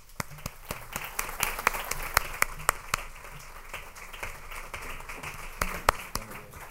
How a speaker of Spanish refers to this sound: para lo cual pido ya un aplauso inicial.